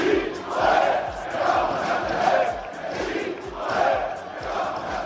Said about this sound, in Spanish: La conjura del Baracaldo con su afición, es el mejor local del grupo primero y tras la victoria gritaban aquello de